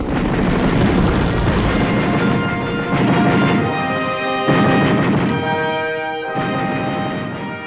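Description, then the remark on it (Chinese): Loud, steady roar of two Mi-8 helicopters' engines and rotors as special forces troops jump out firing rifles during a military exercise at a division headquarters, with dense rattling rifle gunfire layered through it and brief dips in intensity; no voices are heard. “特战队员们从两架直升机上鱼贯跃出，手中的步枪在空中的时候就已经喷出烈焰。”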